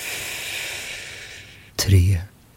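A long, airy breath drawn in, a steady soft hiss for over a second, ending in a brief, sharper burst of breathy sound.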